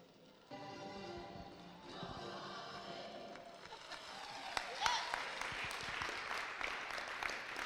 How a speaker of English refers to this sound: And unfortunately, they won't be able to hear you clapping today, but it's hard.